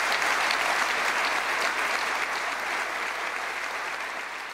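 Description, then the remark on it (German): Sustained applause from a large audience for von der Leyen at an evening appearance in Berlin, a dense, steady wash of clapping that holds at a fairly even level throughout and eases off only slightly toward the end. “Trotzdem trat von der Leyen am Abend in Berlin sehr selbstbewusst auf und erhielt langen Applaus.”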